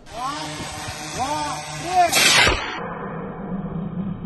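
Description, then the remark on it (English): An air tube launcher fires a gray paper-and-wood drone equipped with explosives into the air once with a loud, sharp pneumatic whoosh, preceded by rising whining tones and followed by a low, steady hum. “In the video, he puts the gray paper drones on a kind of air tube launcher, and then he fires it into the air, and it just disappears from sight.”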